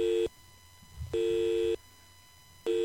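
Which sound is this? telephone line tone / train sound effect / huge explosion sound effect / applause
telephone line tone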